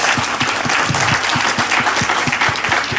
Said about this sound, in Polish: Proszę Państwa, brawa dla naszych panelistów.